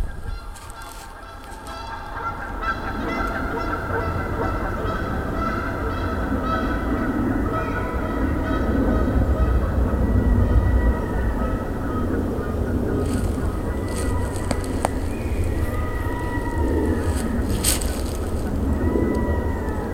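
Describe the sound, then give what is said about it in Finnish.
A flock of Canada geese honking repeatedly as they pass overhead, their calls layered and overlapping, growing fuller midway through against a steady low outdoor rumble. “Nämä on Kanadan hanhia. Kanadan hanhet tulee jo. Ne tulee tästä muuten yli.”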